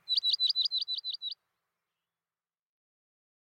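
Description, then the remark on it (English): A bird chirps in a quick, even run of about eight high, sharp, clear notes, then falls silent for the rest of the moment. “What stands out to you about these birds?”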